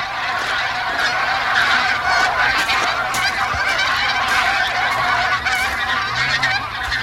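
A dense chorus of wild geese honking continuously on a lake in China where geese from eastern Siberia spend the winter, many overlapping calls forming a loud, busy wall of sound with no pauses, like a large flock gathered on open water.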